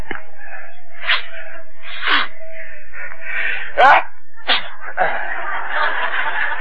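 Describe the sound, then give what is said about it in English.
After taking snuff, a few sharp sniffs and snorts build to one loud sneeze, then a rough exhale, over a steady hum of background tone. “Bless you.”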